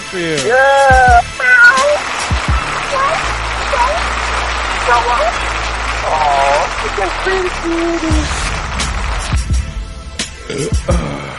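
A cat meows repeatedly and fairly loudly, its rising and falling cries repeating in quick succession over a dense hiss and a steady low droning background.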